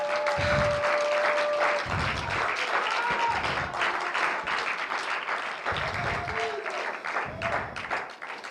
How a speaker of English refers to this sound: Come on, give the Lord a hand clap, give him a praise.